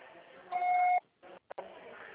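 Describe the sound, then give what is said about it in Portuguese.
A single steady mid-pitched voicemail beep lasting about half a second, loud over a faint hiss of phone-line noise, then a brief silence broken by a couple of soft clicks. “Sua proposta será tarifada após o sinal.”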